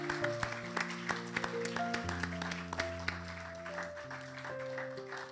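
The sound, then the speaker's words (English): A church audience claps steadily for several seconds to recognize fathers who are standing, a dense, even patter of many hands, while sustained keyboard chords play underneath and shift a few times. “And as they're standing, it would be appropriate we just applaud them.”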